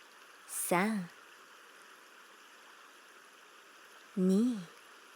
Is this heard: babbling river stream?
yes